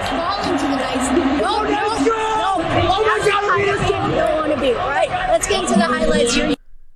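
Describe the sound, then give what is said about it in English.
A loud hockey crowd at T-Mobile Arena, Vegas fans cheering after the Golden Knights' win over the Florida Panthers, cheers continuously, a dense roar of many voices with scattered whoops and yells rising above it, holding steady for about six seconds before cutting off abruptly. “A very loud crowd here at T-Mobile Arena.”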